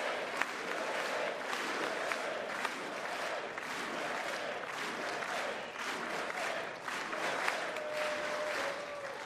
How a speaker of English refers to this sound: Chants everybody. Of USA really in the chamber as the applause continues for President Trump, and here he is.